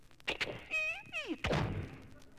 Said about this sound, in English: So he starts out of the house, going out to the car. Here he comes, walking across the living room floor, going outside. Opens the front door.